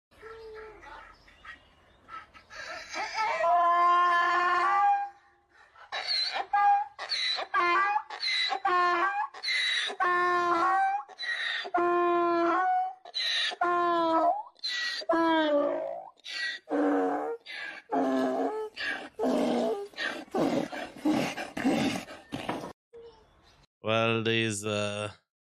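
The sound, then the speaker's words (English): A donkey, meeting the young girl who cared for him as a baby, brays in a long series of loud, harsh, honking calls, each blast rising and falling in pitch with brief gasping pauses between them, ending in one rough final bray. “A donkey meets with the young girl who was caring for him as a baby.”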